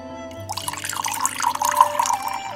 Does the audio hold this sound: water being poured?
yes